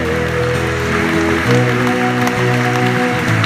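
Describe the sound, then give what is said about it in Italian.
A crowd claps steadily and densely throughout, a continuous crackling wash of applause offered as a blessing to the Holy Spirit, over sustained musical tones that shift pitch partway through. “Questo applauso è pieno di Spirito Santo.”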